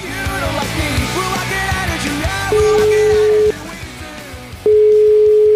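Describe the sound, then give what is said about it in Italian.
A telephone line rings with two long, steady electronic tones separated by a short pause, loud, following a stretch of muffled, busy background sound, as a call is placed to a switchboard answered by a woman. “Esiste, una signora che risponde al telefono.”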